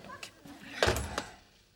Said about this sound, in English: Candy shuts the door in his face.